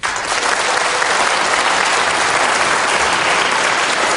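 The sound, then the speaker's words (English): An audience applauds steadily to vote on whether item number one is the fiction, many hands clapping in a dense, loud wash of sound that holds at an even level for the full few seconds with no voices over it. “So how many people in the audience, again, indicate with your applause, how many people think that item number one is the fiction, is not true?”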